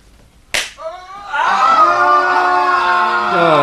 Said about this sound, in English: I want you to shout, all of you. Come on your feet. Come on, up. Get up. Now, scream your heads off. Really uninhibited primal screams. Let everything go.